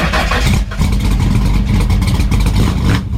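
A loud, throaty Ford Mustang muscle car engine revs, its deep rumble holding steady for a few seconds with a brief dip partway through before roaring on.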